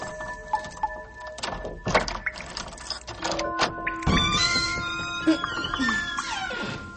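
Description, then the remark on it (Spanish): A small key rattles and clicks in the lock of a small cellar door with a few sharp metallic knocks, then the door thuds and creaks open with long squeaky hinge tones, fairly loud. “Esta llave no encaja en ningún sitio. Espera, hermana, mira. Esa es, sí, una pequeña puerta. Veamos.”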